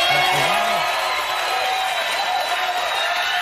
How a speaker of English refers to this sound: And again, they had to cut the applause short because it was, I don't know, 5-6 minutes of standing ovation. It was crazy.